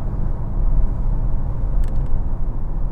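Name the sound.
sports car engine revving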